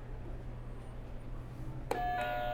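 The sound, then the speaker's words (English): A game show buzzer sounds abruptly near the end: a sudden, bright, sustained electronic tone rich in harmonics, rising out of a steady low hum with no one speaking. “So go ahead and hit a buzzer and we'll get started.”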